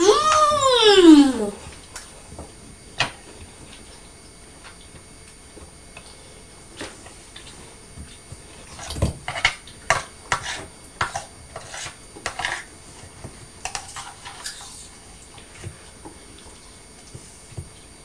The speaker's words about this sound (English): But when Mummy's slicing the pears, quartering the pears, I do what I do with the apples, and if there are any pips, I take them out.